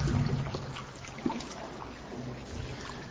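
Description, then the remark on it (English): Water sloshes and splashes as a person is put down into the water of a baptismal pool, with soft trickling and a brief louder slap partway through, no talking. “I'm going to put you right down here in the water.”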